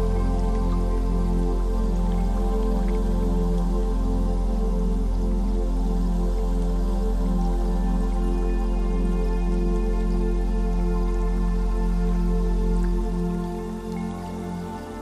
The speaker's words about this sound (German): Die Wellen rauschen beständig, kräuseln sich und schieben sich sanft an den Strand.